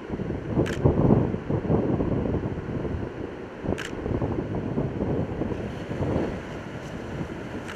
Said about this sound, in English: Notice the wind just picked up 5 to 10 miles an hour just all of a sudden, and the waves are already showing that.